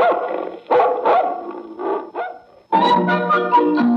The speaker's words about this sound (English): I raise dogs. Big ones to chase nosy survey men. Go get him, puppy!